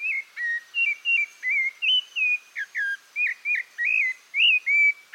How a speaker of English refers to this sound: It's a rufous-bellied thrush, a near look-alike of our robin.